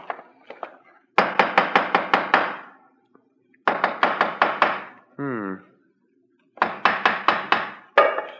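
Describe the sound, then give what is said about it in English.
A hammer taps on a stone in a wall, which sounds hollow, in quick, even bursts of six or seven sharp knocks, pausing between each run. A short voiced sound briefly breaks one of the pauses. “Let me have the hammer”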